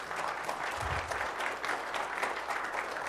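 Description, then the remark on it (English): An audience applauds steadily for about three seconds as new church members are introduced, a dense, even wash of many hands clapping, with a brief low thump partway through and no voices on top. “Please hold your applause until...”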